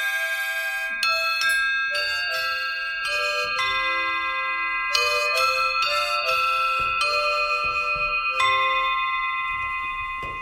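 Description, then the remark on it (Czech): A carillon of cast sheep bells, played by an old shepherd in a room full of cast bells in Šumiac, Slovakia, rings out a slow melody, each struck note bright and metallic with long overlapping sustains, clear with no voices. “V další místnosti plné litých zvonků mě starý bača vede ke své zvonkohře a do úst vkládá foukací harmoniku.”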